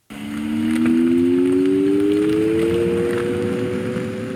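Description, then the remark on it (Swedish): A possible future electric vehicle pedestrian warning sound as the vehicle passes a pedestrian crossing: a steady, low synthetic hum of two close tones that glide slowly upward in pitch over a constant rushing noise, with no one speaking. “Ja, så här skulle det kunna låta i framtiden när ett elfordon passerar ett övergångsställe.”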